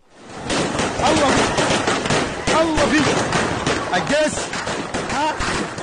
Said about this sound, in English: So what you're hearing, that's automatic gunfire.